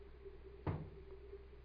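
A car door shuts with one solid, muffled thump over a low steady hum, then a brief fade back to quiet background, as a doctor gets out of his car on a hospital drive at night.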